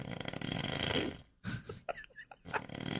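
A person snoring loudly in the producer's chair, a long rumbling inhale followed by a few shorter snorts and breathy gasps, with no talking.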